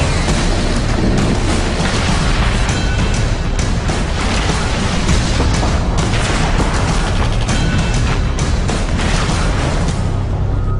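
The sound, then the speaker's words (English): Heavy booming blasts of incoming enemy artillery fire in combat roll in one after another, loud and dense, with rumbling low-end impacts and crackling debris filling the space between them. “There's too much to be gained from deciphering the sounds of incoming fire.”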